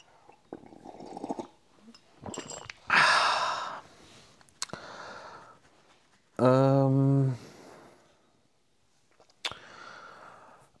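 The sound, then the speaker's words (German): Someone drinks from a ceramic mug in a studio after a toast: breathy sips and soft knocks of the mug, then a loud, satisfied voiced exhale and a final light clink. “Ich erhebe mein Keramikum auf euer Wohl. Prost.”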